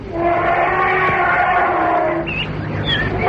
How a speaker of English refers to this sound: A young elephant, that was. A young elephant in trouble. Bad trouble.